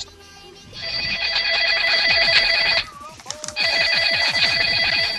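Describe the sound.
A classic telephone bell ringtone rings loudly in two long bursts of rapid metallic trilling, separated by a short pause with faint voices or noise in between.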